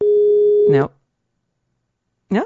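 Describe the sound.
A steady, unbroken telephone dial tone after a dropped call hums loudly for under a second, then a voice cuts in briefly, followed by silence and another short spoken word at the end.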